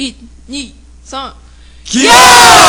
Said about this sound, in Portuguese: Não se preocupe que não sofri nenhum golpe, pessoal. Foi só um grito de encerramento de euforia.